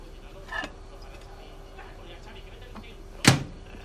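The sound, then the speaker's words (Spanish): A microwave door pops open with a soft click, then after a quiet pause a sharp clatter rings out as a plate of croquettes is lifted out, over a faint steady hum. “Martín se levanta y saca el plato del microondas.”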